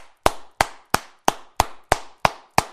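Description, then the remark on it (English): Eight strong, sharp hand claps, one hand striking the other palm, land in a steady even rhythm of about three per second. Each crack is loud and crisp with a short ringing tail, and no voices. “You clap with one hand hitting your palm. Did you hear the strength and sound of that clap?”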